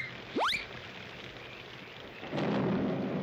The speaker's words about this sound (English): Pretty nice, eh, Barney? Storming outside, we're here dry as a bone.